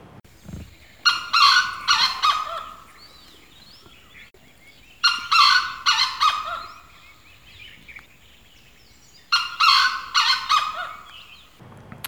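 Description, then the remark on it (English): Grey jungle fowl crowing in three loud, repeated bouts of staccato, clucking calls, each a few seconds long, with quiet pauses between them and no talking. “Now, so the crowing of the grey jungle fowl, and this is how it sounds.”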